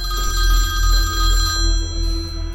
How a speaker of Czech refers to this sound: A pak mi uprostřed noci zazvonil telefon.